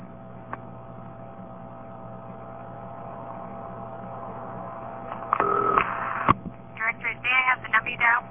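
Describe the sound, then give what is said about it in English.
A humming telephone line rings through to an intercept operator with a short burst of ringing tone, then the operator's voice comes on as the call is answered. “And she'll plug you into an intercept operator, and you'll hear the intercept operator ringing, and then finally she'll answer.”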